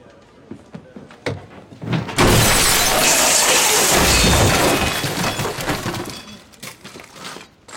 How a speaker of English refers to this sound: I think you closed the door too hard.